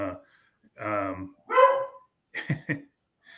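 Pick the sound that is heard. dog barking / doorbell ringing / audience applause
dog barking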